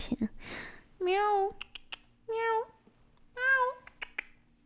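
cat meowing

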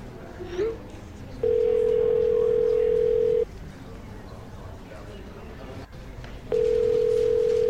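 phone call ringing tone

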